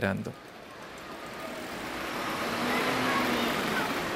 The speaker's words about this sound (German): Am Abend poltert Giovannis Wagen nach Santa Fe hinein.